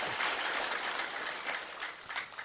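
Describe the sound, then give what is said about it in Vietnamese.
An audience at a gathering claps steadily in tribute to a family that supported the program, a dense crackling wash of many hands at moderate loudness with small swells, no voices on top. “Xin quý vị dành tràng pháo tay để tán dương.”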